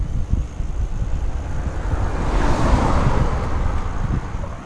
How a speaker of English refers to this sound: Yeah, being on the bike, Magnetic Buddha number 3, and I'm coming back down the lane towards my house. One sec, let the car go past.